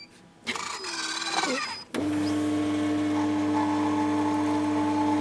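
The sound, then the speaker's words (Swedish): A coffee machine at Malmö University runs its rinse cycle: a short burst of whooshing, gurgling flow with rising whines, then a loud, steady pump hum with a constant low drone that continues to the end. “Nu sköljer vi kaffemaskinen.”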